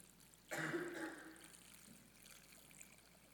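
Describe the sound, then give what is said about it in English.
Water is poured into a container holding sand, to fill it up, in one burst lasting about a second, a splashy, trickling gush that quickly tapers off, with no talking. “I have something else to fill it up, I think.”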